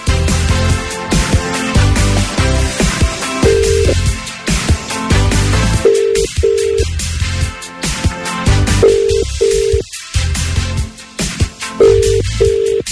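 A telephone ringback tone repeats in steady bursts about every three seconds, sitting clearly over a continuous, fairly loud music bed while the call waits to be answered.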